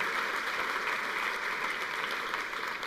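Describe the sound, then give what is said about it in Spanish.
A crowd applauds for Jesus steadily, a dense wash of many hands clapping at an even level for the whole stretch, with no break and no voices standing out above it. “Denle un aplauso a Jesús y dígale: Señor, yo creo esto.”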